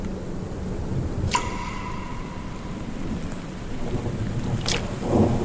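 Torrential rain pours down during a storm in a dense, steady roar, with a low rumble underneath and two sharp, bright bursts cutting through it, one early and one near the end.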